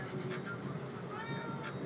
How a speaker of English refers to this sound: Sorry, guys. I have a cat in the background.